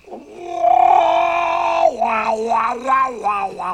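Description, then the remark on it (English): A voice does the seagull Scuttle's off-key squawking romantic serenade from a branch near a boat: one long, strained, nasal held note, then loud warbling swoops that rise and fall in pitch, with no words. “Somebody should find that poor animal and put it out of its misery.”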